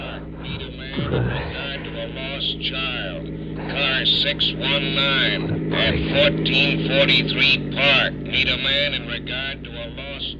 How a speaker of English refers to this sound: Police car cruising. Holy. Get low. Everybody low.